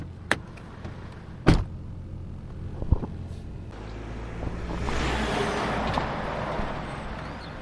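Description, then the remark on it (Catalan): A few sharp clicks and a car door thud, then an engine starts up and a steady, swelling road rumble builds as the car drives off from beside the station in L'Ametlla. No one speaks. “Doncs vinga, tens el cotxe per aquí, a la vora de l'estació? Sí, aquí mateix. Doncs vinga, som-hi.”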